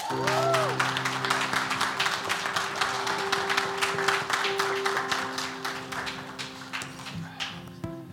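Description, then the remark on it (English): An audience at New Life applauds the graduating class of 2024 steadily for about eight seconds, a dense wash of many hands clapping that stays loud throughout, with a sustained tone humming underneath and a brief chime near the start. “Let's celebrate them and give them a round of applause.”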